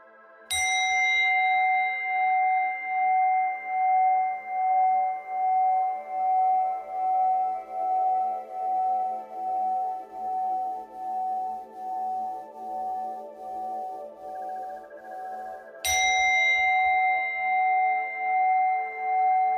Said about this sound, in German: Und ich werde jetzt dreimal den Gong schlagen. Und du lauschst bitte einfach nur dem immer mehr verblassenden Ton.